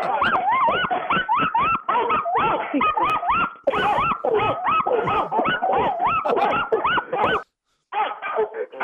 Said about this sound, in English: All right, guys, try to keep them in line for a second here, because now, without further ado, we're going to let them all have the big bark-off choral sing on the count of three.